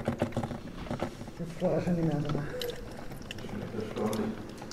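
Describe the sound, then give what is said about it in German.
Hot water splashes and trickles steadily into the glass carafe of a coffee maker that has just been repaired, a continuous liquid patter while people murmur in conversation in the background. “Nach etwa einer Stunde Fingerspitzenarbeit plätschert wieder heißes Wasser in die Glaskanne von …s Kaffeemaschine”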